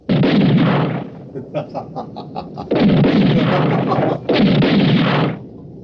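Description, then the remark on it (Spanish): Loud bursts of gunfire boom out in three heavy volleys, with a quick string of sharper cracks and pops between the first two, sounding like shots fired during a roaring storm, with lightning flashing as two men shoot. “Miran a su alrededor y el resplandor de los relámpagos medio ilumina a Calimán por un segundo. Y disparan.”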